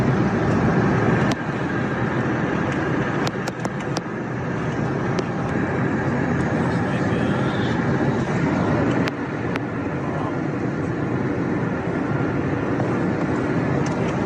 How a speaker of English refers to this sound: These are images shot in the morning hours as a plane came into Los Angeles. Large areas of the city on fire.